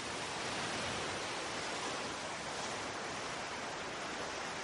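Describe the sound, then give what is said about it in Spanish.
A steady, unbroken wash of sea waves on the coast, a dense hissing roar with no distinct breaks standing out, heard alone without voices at a moderate, even level. “Hay una nueva exposición en el MUNA y hasta que vengas queremos que te relajes con este sonido.”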